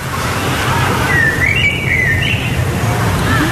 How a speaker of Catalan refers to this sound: Doncs bé, contrasta el so dels ocells que ens han enviat del centre al parc,